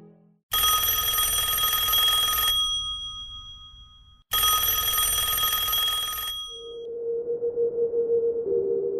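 A loud old-fashioned telephone bell rings in a home in the early hours of a Sunday morning, twice in long, harsh metallic bursts with a short pause between, followed by a lower, softer pulsing tone as the ringing stops.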